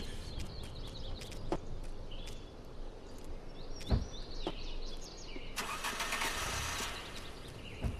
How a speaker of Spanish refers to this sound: Y con esa moto desvencijada.